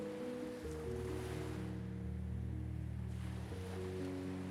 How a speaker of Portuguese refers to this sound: Ouça o som das ondas.